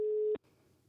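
A telephone ringing tone plays while calling a gluten-free baking instructor for a baking tip: one steady, mid-pitched electronic tone that holds briefly and then cuts off abruptly, leaving a faint low hiss on the line. No one speaks.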